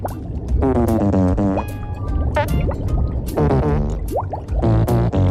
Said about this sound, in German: So geht das den ganzen Tag. Ihre Forelle mit dem Po-Gesicht pupst den ganzen Tag?